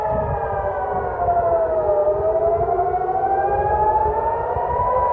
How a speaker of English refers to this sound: Meanwhile, air raid sirens continued to be heard as far away as Jerusalem, as Palestinian militants fired rockets, some of which were shot down by Israel's Iron Dome defence system.